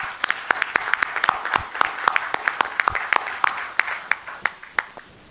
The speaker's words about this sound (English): So the first thing I'd like to say is congrats, everyone, and I please join me in applauding for all this work that's been done so far.